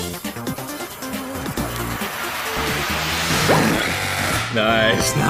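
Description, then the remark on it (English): A power saw whines steadily and loudly as it cuts through a block of chocolate, with voices talking over the grinding and the pitch shifting slightly as it bites in. “Power tools!”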